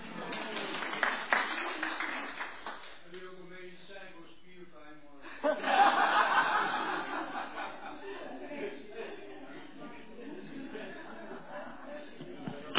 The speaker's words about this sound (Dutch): Dames en heren, jongens en meisjes, applaus voor jezelf.